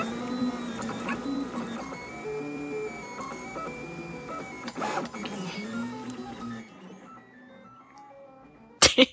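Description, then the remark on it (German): A 3D printer's stepper motors whine and chirp in shifting musical tones for several seconds, steady, then the sound cuts out, followed by two sharp clicks near the end. “sind die Schrittmotoren, die machen diese lustigen Geräusche. Dieses schöne Piepsen und Pfeifen und so.”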